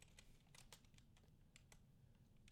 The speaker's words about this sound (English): I can't spell right now. I've got my hands on the wrong keys.